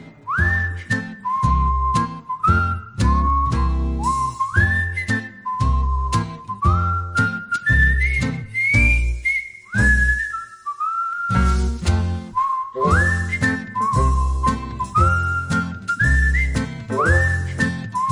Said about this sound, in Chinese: 我真系好中意呢个音乐嘅，吹住口哨咧。